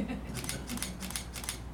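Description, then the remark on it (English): A woman's big camera shutter clicks in a quick, steady burst as she photographs students for the newspaper at a school event, about four or five sharp snaps in under two seconds, heard over a low background murmur of voices. “The lady, big camera first.”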